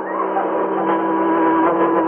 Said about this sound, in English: But what's that? I hear it, too. It's a car. Oh, I can't see over this wall. It's coming right past us.